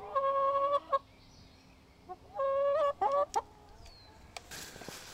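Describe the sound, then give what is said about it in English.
Chickens near a farmhouse on a farm in southeastern Wisconsin cluck and squawk on a spring morning in a few loud bursts: a drawn-out call, a pause, then another long call followed by quick sharp clucks. No one speaks. “There are sheep and goats, lots of barn cats, and chickens right near the house.”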